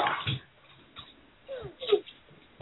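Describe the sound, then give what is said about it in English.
A dog barks a few times in short, irregular bursts, fairly faint, with a brief whiny, falling tone among them and some muffled voice-like sound in the background. “Oh, dog.”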